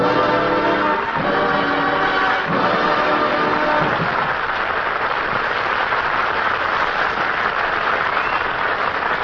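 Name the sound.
studio audience applause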